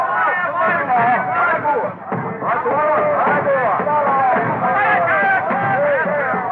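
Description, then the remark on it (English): An excited crowd of tribesmen in a native village in Africa calls out, hailing Henry Stanley and his company as they march in, in a dense, overlapping clamor of many voices, with rising and falling shouts that stay loud and steady throughout, dipping briefly midway. “A few weeks later, in Africa, Henry Stanley and his company march into a native village and are hailed by excited tribesmen.”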